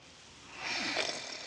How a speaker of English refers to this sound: A man lies snoring on a pile of feed bags.